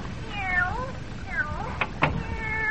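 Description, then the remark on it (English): A skinny, hungry-looking cat meows several times in short, rising-and-falling cries, with a couple of sharp knocks or taps between them against a faint background hiss. “Hey, it's a cat.”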